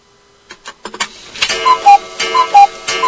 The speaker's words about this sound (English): Well, a cuckoo clock.